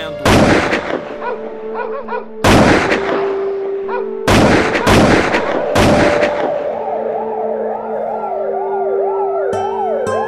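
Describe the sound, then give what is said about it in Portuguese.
Five loud, sharp gunshots ring out at uneven intervals over a steady droning tone, then a wailing siren rises and falls in the background until the end. “Eu acordo com os tiros, tipo assustado.”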